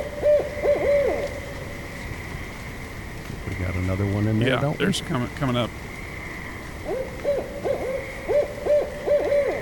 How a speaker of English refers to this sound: Yeah. And there's your bard owl. Now that'll get the girls in there. There you go.